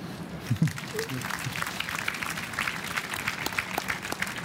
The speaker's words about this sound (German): Slavoj, du klatschst schon selbst.